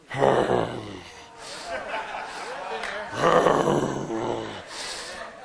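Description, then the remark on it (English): A man's voice makes a rough, guttural growling grunt, imitating a lion as a morning greeting on waking up, in two loud bursts separated by a few seconds of lower, rumbling vocal noise. “Sound like you're the lion of the tribe of Judah.”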